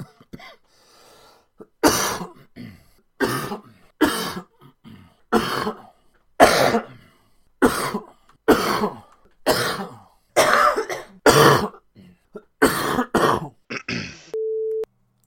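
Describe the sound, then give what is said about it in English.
A person coughs and clears their throat over and over, about a dozen loud bursts at a steady pace, followed by a brief electronic beep at the end. “I'm going to edit my audio before I send it to Ross so I get rid of all the coughs”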